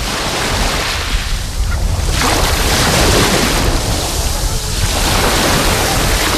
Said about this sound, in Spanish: Así que acerco el micro, hoy no mucho porque hay un ligero oleaje. Vamos a dejarnos llevar por el sonido del mar Mediterráneo.